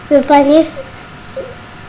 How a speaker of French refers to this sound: Oui, on entend du panier un petit cri qui fait miaou, miaou.